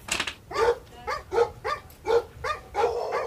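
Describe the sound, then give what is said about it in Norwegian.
Three large dogs bark in a steady, fairly rapid series of about seven deep, full barks, moderately loud, with no talking. “Vi skvetter forbi de 3 svære bikkjene og lander tilbake i bilen.”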